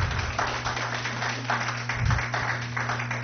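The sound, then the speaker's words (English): Scattered hand claps from a small audience at a public hearing, after an applicant's presentation, sparse and uneven rather than a full ovation, at a moderate level over a steady low electrical hum, with no one speaking. “Please keep your applause down.”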